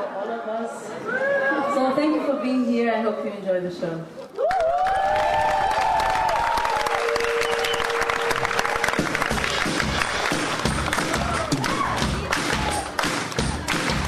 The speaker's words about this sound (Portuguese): a cantora foi recebida com calorosos aplausos que se repetiram durante todo o concerto.